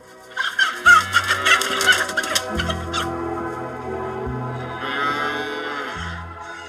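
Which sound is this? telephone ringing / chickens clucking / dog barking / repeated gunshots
chickens clucking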